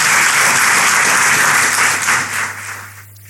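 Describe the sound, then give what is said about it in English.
An audience applauds panel guests before a conversation, in a dense, steady wash of clapping that holds strong for over two seconds, then thins out and fades away toward the end. “So please give them a big round of applause, and we'll start our conversation.”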